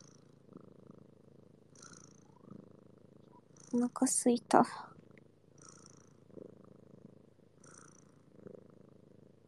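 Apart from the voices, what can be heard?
cat purring loudly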